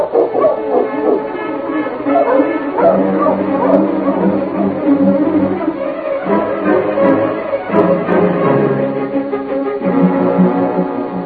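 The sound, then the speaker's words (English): A team of sled dogs barks and yips excitedly as they are got up, a dense, overlapping chorus that stays loud for the whole stretch, with a few whimpers and higher yelps mixed in. “Get the dogs up, King.”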